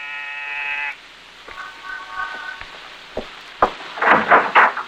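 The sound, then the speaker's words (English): A door buzzer is pressed in the corridor of an apartment building in the East 70s, New York: a loud, steady electric buzz for about a second, followed by a fainter buzzing tone, then scattered thumps, clicks and shuffling noises. “On the afternoon of your arrival in New York, you walk down the corridor of an apartment building in the East 70s, pause, and press a buzzer.”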